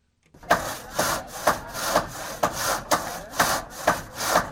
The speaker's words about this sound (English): The sound of hammers and saws in Haiti signaling some progress a week after Hurricane Matthew struck the island, killing more than 300 people.